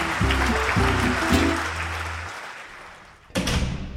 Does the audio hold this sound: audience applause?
yes